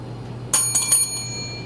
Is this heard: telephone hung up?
no